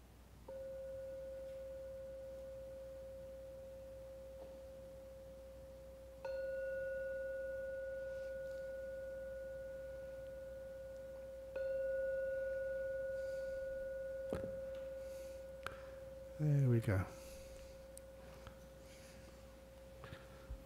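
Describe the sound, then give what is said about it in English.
A gong is struck three times to end a meditation, about six seconds apart, each stroke adding to a steady, humming mid-pitched ring that lingers without fading. A few brief knocks and rustles follow near the end. “So I'll now ring the gong 3 times.”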